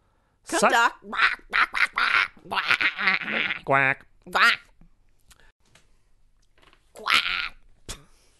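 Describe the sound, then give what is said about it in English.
A person imitates a goose quack with a rapid string of loud, nasal honking calls, then falls quiet before one more short burst of honks. “Can you do a goose quack?”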